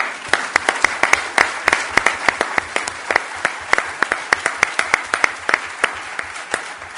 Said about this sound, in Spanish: No cuando yo termine, ahora para ellos les pido un aplauso.